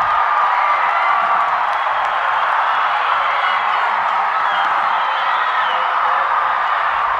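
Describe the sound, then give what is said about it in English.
A big football stadium crowd on the near side roars and cheers as DeForest takes its first lead over Menasha with 32 seconds left in the fourth quarter, a loud, continuous wash of voices that holds steady for several seconds without letting up. “You hear the roar of the crowd on the near side as DeForest takes their first lead of the game with 32 seconds left in the fourth quarter.”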